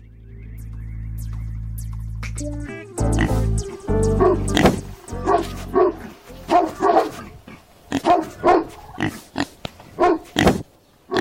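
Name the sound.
dog barking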